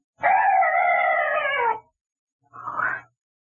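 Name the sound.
weird night bird call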